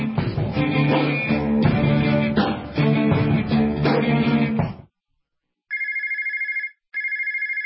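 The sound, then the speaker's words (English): Music plays for several seconds, cuts off, then a telephone rings twice in close succession, a bright trilling electronic ring, loud, with no talking. “If your phone's not ringing, chances are it's a problem with your marketing.”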